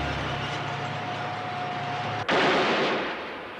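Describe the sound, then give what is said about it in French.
A military tank in Prague on the night of 20 to 21 August 1968 rumbles with a dense, loud mechanical roar and a thin, steady creaking squeal, then the noise abruptly shifts into a harsher, louder grinding clatter partway through. “Voilà, c'est un char, on est dans la nuit du 20 au 21 août 1968 à Prague.”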